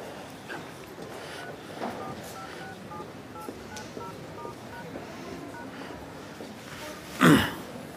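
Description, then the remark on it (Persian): A quick series of short, evenly spaced mobile phone dialing tones beeps as someone uses a borrowed mobile phone to call Amir, over a faint background hiss, followed by a brief louder rustle or thump near the end. “موبایلم رو جا گذاشتم، میتونم با موبایلتون زنگ به امیر بزنم؟”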